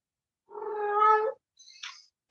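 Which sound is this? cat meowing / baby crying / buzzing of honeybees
cat meowing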